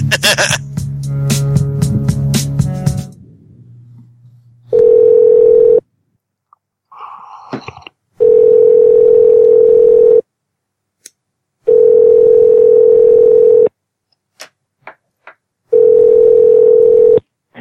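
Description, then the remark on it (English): The ringing tone of an outgoing phone call to a real estate consulting agency sounds in four steady, loud pulses of about two seconds each, separated by short silences, after a brief burst of clattering noise at the start. “I'm going to call United Country Graham Agency Machine.”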